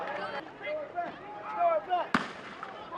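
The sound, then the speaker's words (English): A single sharp bang of gunfire cracks out over the noise of a street protest crowd, with shouting voices and chatter before and after the sudden report. “We obviously missed a gunfire.”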